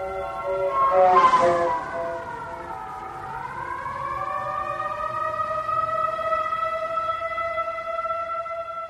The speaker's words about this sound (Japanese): もう辺りは真っ暗。遠くから救急車や消防車のサイレンが聞こえる。